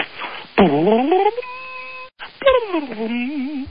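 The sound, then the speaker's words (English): A voice heard over a phone line imitates a harp with sweeping sung glides, sliding down then up, a held steady tone, a brief pause, then wavering rising runs that end with a ripple of pitch. “How about harp, harp sound effect?”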